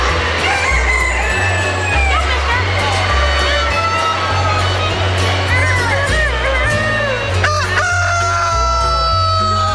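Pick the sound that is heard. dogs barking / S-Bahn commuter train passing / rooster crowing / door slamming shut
rooster crowing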